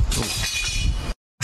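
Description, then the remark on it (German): A slightly rusted saber falls off a balcony and hits the ground with a loud, harsh, clattering crash lasting about a second, bright. A sudden moment of silence follows before the noise briefly resumes. “Von lauter Nervosität hier fällt mir das so glatt vom Balkon hier, die ganze Scheiße.”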